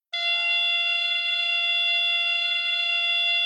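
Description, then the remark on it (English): A beep baseball base, a padded cylinder about 4 feet tall with speakers inside, activated by a base operator after the ball is hit, buzzes in one loud, continuous electronic drone. The harsh, steady tone is rich in overtones and keeps going without a break, with no voices. “The batter doesn't know which base is going to buzz until they've hit the ball.”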